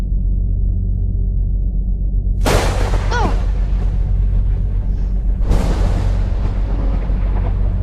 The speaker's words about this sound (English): Oh. That sounds like one of our storms. Wow.